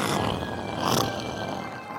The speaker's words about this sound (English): At his feet, a great dog growled ominously.